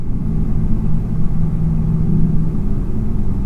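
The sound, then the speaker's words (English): An oil well drill string moving in and out of a nearby well bore that has just turned on: a steady, deep mechanical rumble throughout, with a low droning tone rising out of it for a second or so midway. No voices. “While I was recording this, a nearby well bore turned on. And then just started playing this creepy song as the drill string went in and out of the well.”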